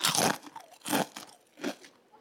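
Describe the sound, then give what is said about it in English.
Three loud, close-up crunches of a fortune cookie breaking, each a sharp crackly burst followed by a short pause, with faint crumbly noise in between and no talking. “So they went and got me fortune cookies so I could like show you guys.”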